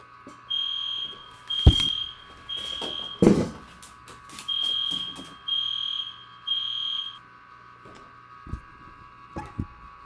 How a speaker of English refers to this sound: Okay, so there was a small interruption because there was a fire drill, so let's get back right to where I was.